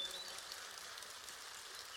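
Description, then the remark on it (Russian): Soft, steady patter of light rain, a faint, even hiss that holds for the whole moment without building or fading, with no voices. “Ой, дождь пошел, птички, слышите, дождь пошел и прошел.”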